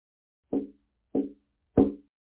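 knock

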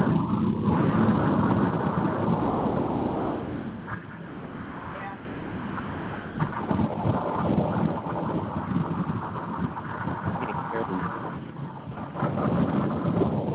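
boat engine noise

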